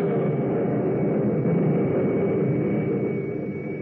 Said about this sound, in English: But then, as he starts forward in pursuit, he is stopped by a sudden blinding flash of lightning, a blazing arrow from the heavens that strikes at the center of the clearing.